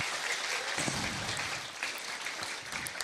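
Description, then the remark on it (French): Steady audience applause for the children and the Between group who made interviews, a dense wash of many hands clapping at an even level throughout, with no talking over it. “Est-ce qu'on peut applaudir les enfants et les Between qui ont fait un super travail?”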